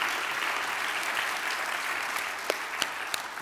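An audience claps steadily, a dense wash of many hands at a constant moderate loudness, with a few sharper individual claps popping out near the end.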